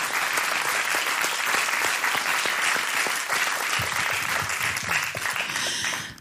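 Sustained audience applause, a dense crackle of many hands clapping at steady loudness for about six seconds, with some cheering mixed in before it tapers slightly at the end.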